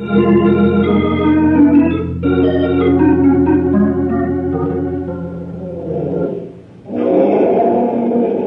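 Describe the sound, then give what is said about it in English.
A full-grown male African lion named Sultan roars loudly in long, sustained, rumbling bellows, three drawn-out bursts separated by brief pauses, with no voices present. “Is that Sultan roaring”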